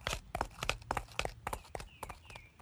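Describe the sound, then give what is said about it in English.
Hoofbeats of riding horses clop in a quick, uneven rhythm, a steady run of sharp, moderately loud knocks with no voices, as knights and a queen's party ride outside Canterbury to the remains of a large Roman villa. “a Norman knight and several other knights ride outside Canterbury to the remains of a large Roman villa.”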